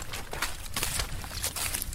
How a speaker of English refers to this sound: Ready? Okay, just jumping into the boat here.